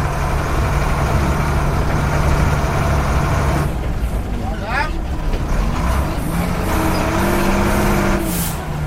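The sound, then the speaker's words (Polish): A large vehicle's engine rumbles loudly and steadily throughout during a ride, heard from inside the vehicle, a dense low drone with a rising whine near the end, with muffled voices underneath. “Poza tym prowadzi się to podobnie jak duże auto po prostu. Czyli zabiera mnie pan teraz na taką przejażdżkę.”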